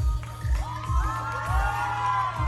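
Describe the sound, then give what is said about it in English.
A crowd at a drag show in Central Illinois cheers wildly as the performer Seduction, in a cape, swings it around her body and kicks it up, with high whoops and screams rising over a dense roar while a heavy bass beat thumps steadily underneath at a regular pulse. “At one point, she swings the cape around her body, kicks it up, and the crowd goes wild.”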